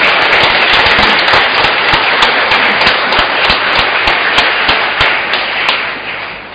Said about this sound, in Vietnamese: Xin cộng đoàn cho một tràng vỗ tay thật lớn.